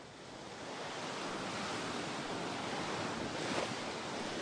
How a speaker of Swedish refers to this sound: Då är det en söndagsmorgon när jag går här med fötterna i havet